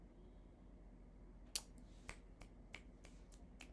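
Finger snapping used as applause: one sharp, bright snap, then a run of quicker, softer snaps in an uneven rhythm over a low steady hum, with no talking.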